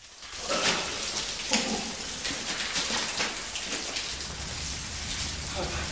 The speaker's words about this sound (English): Soaking wet in here. Water droplets caught in the daylight from the shaft entrance far above him.